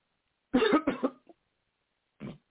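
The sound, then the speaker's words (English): A person coughs hard twice in quick succession, followed by a small catch, then one more quieter cough after a pause. Fairly loud, with no talking. “Don't swallow that. You cough that up.”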